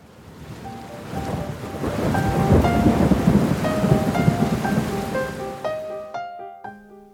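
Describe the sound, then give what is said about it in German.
A thunderstorm rumbles under a steady hiss of rain, swelling to a loud, rolling peak midway before easing off as a few sustained musical tones come in at the end. “Gegen Abend hatte sich das Unwetter gelegt.”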